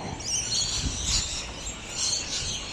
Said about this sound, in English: Sorry, there are a flock of birds in front of me.